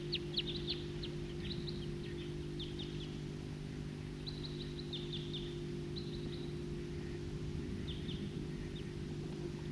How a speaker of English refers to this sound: It's a recording, flock of wild birds.